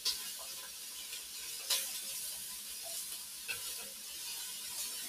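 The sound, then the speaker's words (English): Steady, crackling sizzle of carrots and celery frying in oil in a pan, fairly loud, with a few sharp scraping clicks as a utensil stirs them around; no one speaks. “Nice sizzle. Get that stirred around.”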